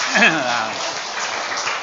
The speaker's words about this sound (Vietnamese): cho anh tràn pháo tay cho hai người.